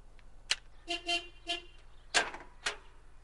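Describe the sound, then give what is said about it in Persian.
A car horn gives a few short honks, a quick double toot followed by a single one, mixed with sharp clicks and thumps of vehicle noise at moderate volume. “بوق برای چی میزنیم؟”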